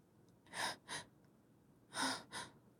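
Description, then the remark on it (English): Heavy, airy breaths in two quick pairs, each a longer breath followed by a shorter one, like panting. They stand out against faint background hiss, and no one speaks. “All I hear is you breathing and panting.”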